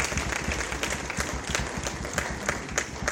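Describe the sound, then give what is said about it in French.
Sustained applause from a symposium audience welcoming the keynote speaker, dense overlapping claps filling the room at a steady, fairly loud level with no voices standing out. “Est-ce que nous pouvons l'accueillir avec des applaudissements, s'il vous plaît?”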